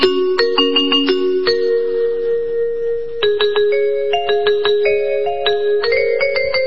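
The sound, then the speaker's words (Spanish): An electronic doorbell chime plays a bright, continuous melody of many quick bell-like notes, loud, ringing on for several seconds with no voices, as someone keeps a finger pressed on the doorbell. “¿Qué tiene toda la melodía en el timbre?”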